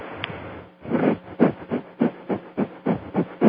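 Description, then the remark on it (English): Quick, forceful breaths puffed through the nose in a steady rhythm, about ten sharp hissing bursts in a few seconds, as a shortened pranayama breathing technique, with no talking. “I always say my Cliff Notes breathing technique, which is kind of cheating, you know, pranayama is so powerful, and this is a very shortened version of pranayama, is to use 2 minutes of rapid panting through the nose, like that, like this.”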